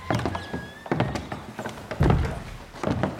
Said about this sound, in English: Going through another enormous oak door.